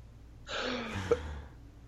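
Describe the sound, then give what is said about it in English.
A single cough from someone with a lingering cough, a short breathy, throaty burst lasting about a second, heard alone without any talking. “Sorry, still coughing.”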